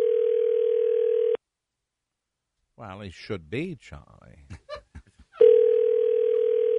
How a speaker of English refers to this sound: One more, it'll just go beep, and that will mean he's on the road.